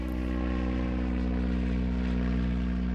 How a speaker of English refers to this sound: And it wasn't a small plane. This was a Lockheed Lodestar, World War II prop plane, cargo plane, huge.